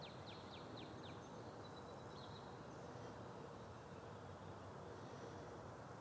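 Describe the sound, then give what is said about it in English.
Birds sing faintly on a morning in Franklin in April, a quick run of high descending chirps followed by a few thin whistles, then fading into a steady outdoor hiss with no voices. “Steve Sherlock again here in Franklin, Friday, April 19th, listening to the birds”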